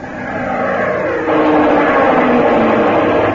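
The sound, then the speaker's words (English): A diving Navy airplane at 5 o'clock roars loudly and steadily, its engine noise thickening and growing harsher about a third of the way in, then holding at full force with no voices. “Plane diving at 5 o'clock.”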